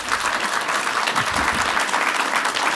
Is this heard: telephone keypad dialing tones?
no